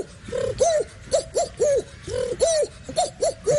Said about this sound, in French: Pigeon. C'est pas moi qui fais les cris, je tiens quand même à le préciser.